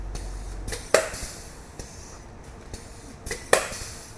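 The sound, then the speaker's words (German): An in-situ construction robot at work on a house, the robot that helped build the house's double-curved, twisting concrete wall: a steady mechanical hiss punctuated by sharp clacks and thumps at irregular intervals, two of them louder than the rest, with no voices. “Wir hören den sogenannten In-Situ-Roboter, der die doppelt gekrümmte Betonwange geholfen hat, die das Haus dreht.”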